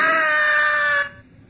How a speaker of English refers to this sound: Yes. I screamed. I screamed so loudly there was blood in my throat.